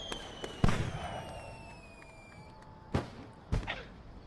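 Fireworks bang in sharp bursts, one big boom followed by two more cracks a few seconds apart, with faint whistling streaks and a low rumbling crackle filling the gaps.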